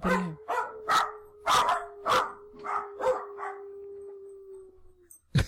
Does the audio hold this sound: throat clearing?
no